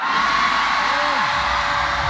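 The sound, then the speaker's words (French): A large, compact, teenage concert crowd in a tent screams and cheers in a dense, continuous roar before a still-dark, empty stage, awaiting the French rapper on a humid evening, with a few rising whoops cutting through the wall of voices. “Un tsunami de cris incantatoires devant une scène encore obscurcie et déserte.”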